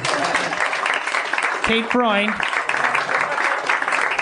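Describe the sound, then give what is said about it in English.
Audience applause fills the whole stretch, a dense, steady wash of many hands clapping, with a brief voice or whoop rising out of the crowd midway through. “Please applaud.”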